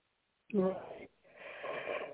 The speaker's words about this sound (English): Right. Okay. Excuse me. You caught me mid-yawn there.